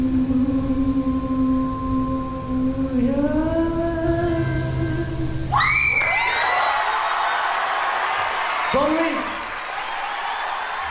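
Sustained, rising musical notes end the song, then a large live crowd bursts into loud cheering and applause, with scattered whoops and shouts carrying on to the end.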